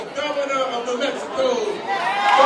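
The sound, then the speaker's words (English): Crowd of rank-and-file Democrats at Clyburn's outdoor political fish fry, where candidates spoke on the campaign trail: a steady, dense murmur of many overlapping voices chattering at once, no single speaker standing out, holding an even level throughout. “New Mexico Governor Bill Richardson doesn't usually get to address a crowd this size on the campaign trail.”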